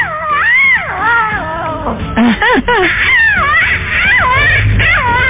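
Lion cubs at Zacango crying: a steady stream of loud, high, wavering mewls that rise and fall in pitch, several overlapping calls following one another across the whole stretch with only brief gaps.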